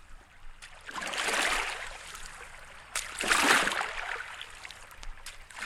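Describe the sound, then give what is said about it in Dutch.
Water washes gently against the foot of a dike in two soft, swelling surges, fairly quiet, with faint trickling between them and no voices. “We gaan nu allemaal onder aan de dijk hier, met de voeten zo in het water om te kijken of daar mensen zijn aan boord.”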